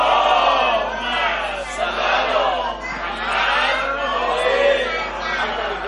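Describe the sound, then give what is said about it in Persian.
A large crowd at a religious gathering recites the salawat blessing together in unison, loud rhythmic waves of many voices rising and falling over about six seconds. “در هر صورت بازم یک صلوات بفرستیم.”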